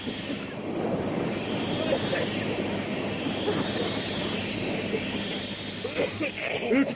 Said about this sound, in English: Roaring and hissing, great clouds of live yellow steam pour into the narrow tunnel from the opening.